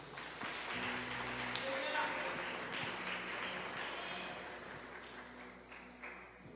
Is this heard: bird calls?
no